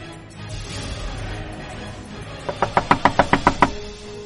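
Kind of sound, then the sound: household object, knocking on a door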